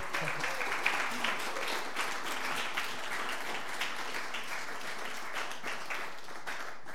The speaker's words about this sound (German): Also ich glaube, wir können nochmal kurz einen Applaus für das Team geben.